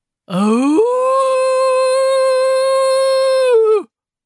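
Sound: wolf howling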